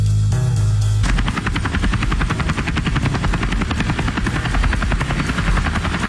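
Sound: helicopter sound effect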